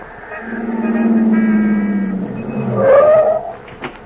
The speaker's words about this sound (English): You rush out after her, but she disappears into a waiting car and drives off.